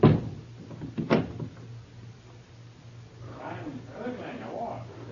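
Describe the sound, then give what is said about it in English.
A door lock clunks shut as a door is locked, with two sharp metallic knocks about a second apart, followed by a low hum and faint, muffled voices murmuring in the background. “I lock the door.”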